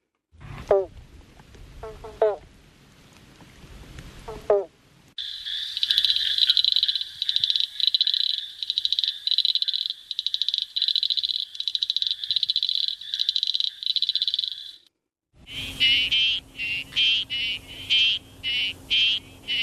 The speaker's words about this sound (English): Now, I don't know about you, but I just adore the sound of frogs.